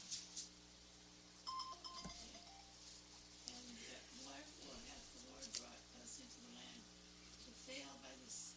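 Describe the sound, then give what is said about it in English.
A few short electronic telephone tones chirp near the start, signalling a phone call from upstairs, then fade into a quiet hum with faint, muffled voices and small movements in the background. “Yes, and I'll read, we have a phone call from upstairs, so I'm going to read verse 4.”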